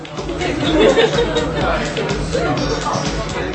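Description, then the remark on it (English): A steady hubbub of many overlapping voices fills Pevex, a busy 1970s-themed bar crowded with young people on a popular party street in Warsaw, Poland, with indistinct chatter and occasional louder exclamations rising above the constant murmur of the crowd. “On one of Warsaw's popular party streets, young people crowd into a bar where everything, from the derelict retro furniture to propaganda posters, is designed to remind you of the 1970s.”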